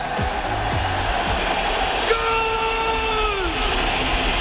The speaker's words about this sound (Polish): Polskie Radio Poznań, audycja w sportowym rytmie. A ten radiowy dżingiel oznacza, że zaczynamy mini magazyn piłkarski Wielkopolskie Gole.